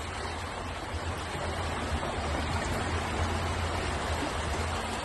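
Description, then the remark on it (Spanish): Floodwater rushing down a residential street in Ibiza town after torrential rain, a steady, dense roar of churning water with a low rumble underneath, continuous, with no voices. “Las calles de Ibiza parecían ríos. Mira la calle de casa.”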